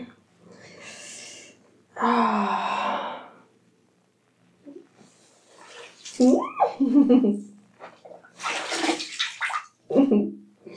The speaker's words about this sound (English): See if I can slide down and get under the water without slopping water everywhere and getting over my phone. Oh, that's good.